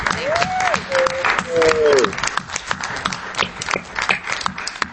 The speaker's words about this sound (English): And so first let's have a big round of applause, including some hoots from the people on Zoom